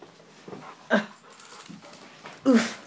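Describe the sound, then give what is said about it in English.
A male black Labrador whimpers in two short, whiny bursts with quick breathy panting in between, fairly quiet, with no one talking. “Well, as you can see, I have my dog and is a...”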